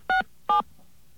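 Two short touch-tone dialing beeps from a telephone keypad, each a clean dual-pitched tone lasting a fraction of a second, spaced evenly apart over a faint background hiss.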